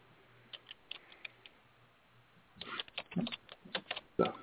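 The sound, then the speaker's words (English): Someone types on a computer keyboard with quiet, irregular clicking that starts sparse and becomes a faster, denser run of keystrokes in the second half. The typing sounds fairly soft, with no voices. “So, somebody's typing. It's not me. I hear typing.”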